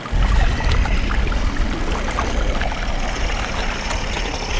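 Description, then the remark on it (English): A boat engine runs steadily on water, a loud low rumble mixed with constant splashing and churning that holds at an even level throughout, with no one talking. “I turn off the engine so I can listen.”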